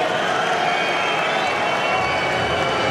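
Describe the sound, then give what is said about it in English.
A large crowd at a tennis match boos steadily for three seconds, a loud, sustained roar of jeering voices with no clear breaks or single voices standing out. “I'm not sure why the booing.”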